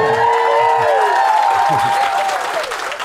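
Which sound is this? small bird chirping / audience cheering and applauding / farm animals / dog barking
audience cheering and applauding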